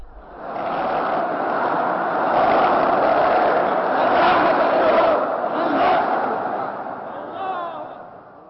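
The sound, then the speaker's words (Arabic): A large crowd lets out a loud, sustained collective shout that swells and holds for several seconds before tapering off at the end, shouting on a speaker's call during a religious address about the month of Ramadan. “ولندخل في هذا العنوان، اصرخوا صرخة كبيرة منعشة منشطة.”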